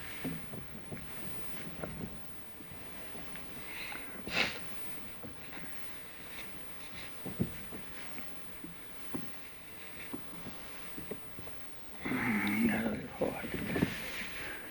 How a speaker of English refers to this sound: if I just... like that. Oh, a little cough. A little cough.